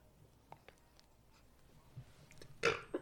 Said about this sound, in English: Sorry, I had to burp that.